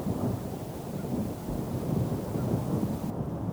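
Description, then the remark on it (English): A low, drawn-out rumble of distant thunder from a storm over the southern ridge and prairie hills rolls on steadily, deep and muffled, with a faint wash of rain or wind underneath and no voices. “Then, from the southern ridge, a low, drawn-out rumbling.”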